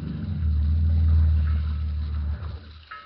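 A low, steady motorboat engine rumbles, then loses power and dies away toward the end as the boat, about 2 miles out in fog, slows to a stop. No voices are heard.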